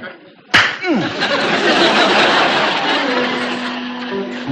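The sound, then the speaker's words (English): A single sharp, loud slap as a woman strikes a man across the face cracks out near the start, followed by a sustained busy wash of noise with a faint murmur of voices underneath. “I have a good mind to slap your face.”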